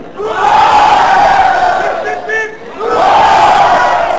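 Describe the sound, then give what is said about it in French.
A large crowd cheers and whoops loudly in two long surging waves, with a brief dip between them and a few higher shouts rising out of the roar. “L'heure tourne, les portes de la salle finissent par s'ouvrir, la foule s'engouffre, un nouvel épisode de Star Wars”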